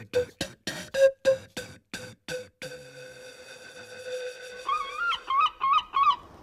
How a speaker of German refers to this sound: Möwengeschrei dringt an sein Ohr.